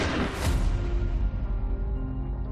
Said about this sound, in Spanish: Un desconocido está a punto de hacerle una confesión cuando la conversación es interrumpida por un disparo.